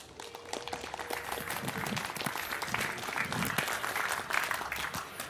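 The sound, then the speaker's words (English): A crowd applauds steadily for several seconds to welcome a talk, Reticulum, Unstoppable Networks for the People, a dense, even patter of many hands clapping at once with no voices standing out. “So I would like to hear a warm round of applause for Reticulum, Unstoppable Networks for the People,”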